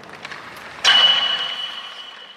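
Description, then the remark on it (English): A single sharp metallic ping as a hockey puck strikes a metal goalpost, ringing out with a bright sustained tone that slowly fades over a couple of seconds, preceded by faint rink ambience. “That's the sound of a hockey puck hitting the metal goalpost.”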